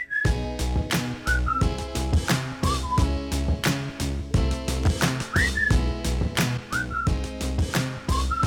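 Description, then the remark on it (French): A catchy whistled melody of short, bright phrases rides over a loud, punchy dance beat with thumping drums and bass, opening a song with no singing. “Et vous allez reconnaître tout de suite ce petit air sifflé au début qui engage le bougeage de Popotin.”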